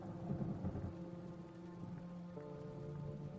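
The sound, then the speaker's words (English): A steady, heavy evening downpour hisses continuously, with a deep rumbling undertone and some sustained tonal hum mixed in, fairly quiet overall and with no voices. “So through the dying light and falling rain she walked, drinking in the dark and sovereign beauty of an evening gully washer.”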